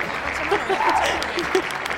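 An audience claps steadily for a couple of seconds, a dense, even patter of many hands with a few sharper claps standing out, and faint voices murmuring underneath.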